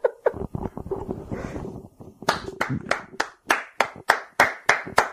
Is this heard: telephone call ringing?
no